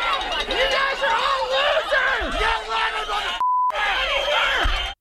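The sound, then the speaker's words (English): A large crowd of protesters shouts and yells at once, loud, with many overlapping voices for about five seconds, demanding that an event be shut down, briefly cut by a short bleep tone near the end. “Okay, so you see a pretty good crowd there.”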